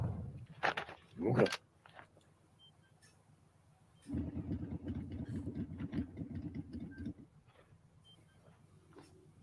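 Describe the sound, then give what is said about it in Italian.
A motorcycle engine idles in a video game, a steady throbbing rumble that holds for a few seconds before cutting off, preceded by a couple of brief, loud clattering bursts. “vediamo anche il gameplay in moto, che in realtà lì la verità non è che tu guidi la moto.”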